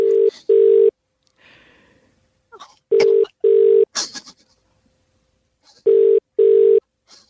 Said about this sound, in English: We've got his number here. Jesse is just punching it into the system.